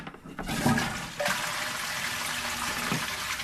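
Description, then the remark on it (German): A toilet flushes, a loud rushing surge of about 7 liters of drinking water that swirls and drains steadily for a few seconds, with no voices over it. “In diesem Moment laufen ungefähr 7 Liter Trinkwasser durch die Toilette und werden durch Fäkalien verunreinigt und damit zu sogenanntem Schwarzwasser.”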